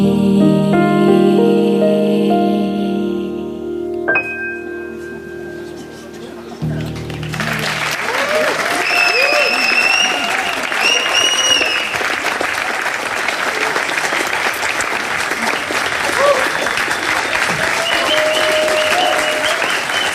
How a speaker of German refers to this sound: Wenn ich gar nichts sage, wird vielleicht noch eine halbe Stunde geklatscht. Ich würde es dir so gönnen.